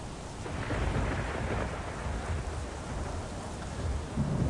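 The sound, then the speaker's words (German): A thunderstorm with steady, hissing rain and deep, rolling rumbles of thunder, loud and continuous throughout, with no voices. “Der Sturm, der hört nicht auf, der ist weiter am Toben. Das Wasser ist am Spritze.”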